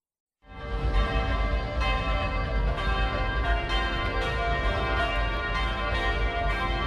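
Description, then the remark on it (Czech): The bells of the Cathedral of Christ the Saviour in Banja Luka peal at exactly midnight on Orthodox New Year, calling believers to prayer. After a brief silence they ring continuously, a dense, resonant wash of overlapping clangs with rich ringing overtones, loud and sustained throughout. “Tačno u ponoć zvona sabornog hrama Hrista Spasitelja odjeknula su gradom, pozivajući vjernike na molitvu.”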